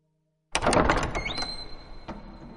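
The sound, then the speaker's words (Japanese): A heavy church door opens: a burst of clunks and latch rattles, then a long, high creak as it swings, and a final dull thump. “開館時間を30分近く過ぎて、ようやく教会の重い扉が開いた。”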